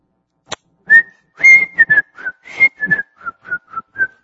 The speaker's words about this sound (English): I can't whistle and preach at the same time.